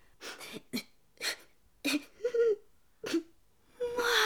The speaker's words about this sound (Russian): Мальчик, а почему вы плачете?